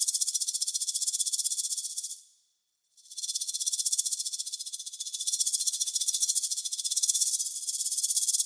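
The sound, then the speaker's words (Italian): A rattlesnake slithering slowly through leaves gives a dry, rapid, hissing buzz that runs steadily, cutting out for a brief moment before resuming just as loudly. No voices are heard. “Il serpente a sonagli striscia lento tra le foglie.”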